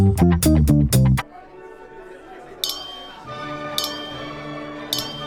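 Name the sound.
glasses clinking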